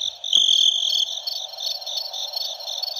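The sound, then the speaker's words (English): Crickets chirp in a steady, high-pitched pulsing trill that fills the quiet, with no voices, just the insect chorus carrying on evenly at moderate volume. “There's no dog here. There's crickets.”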